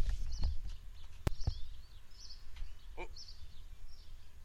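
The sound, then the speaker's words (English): Faint birds chirp and tweet intermittently at a distance over a low outdoor rumble, with a few sharp clicks or knocks scattered through the quiet scene. “I heard a car, I think. Yeah, and some Tweety Birds.”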